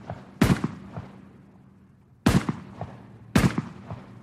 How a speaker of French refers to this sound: Et donc le juge d'instruction s'installe avec elle et son avocat dans la chambre. Et il fait tirer 4 coups de fusil par les gendarmes.